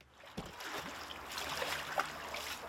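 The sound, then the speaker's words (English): River water flows and laps around a small round coracle being tested on the Towy River at Carmarthen, Wales, a steady wash of trickling and gurgling broken by a few soft splashes and knocks. “And so yesterday, he drove 7 hours with his family to test it out on the Towy River”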